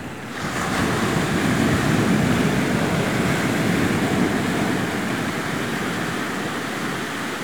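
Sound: sea waves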